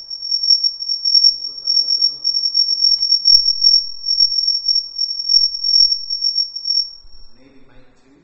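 signal or alarm, mobile phone ringing

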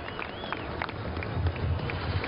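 crowd, crowd cheering

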